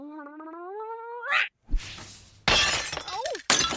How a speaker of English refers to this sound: It crashed into a lamp on the table. Oops.